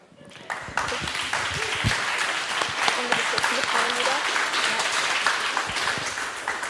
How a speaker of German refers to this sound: Ich glaube, es war eine gute Idee, sich bei euren Eltern zu bedanken. Ich glaube, habt ihr extra viel Applaus bekommen.